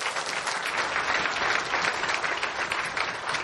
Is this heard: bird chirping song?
no